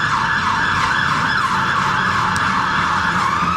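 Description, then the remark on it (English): A fire engine siren wails loudly and continuously, its pitch rising and falling, over a low rumble of street traffic at a major city junction on King William Street, the road that comes down from London Bridge, with no one speaking. “And also, we've got fire engines, we've normally got a helicopter, but this is a major junction.”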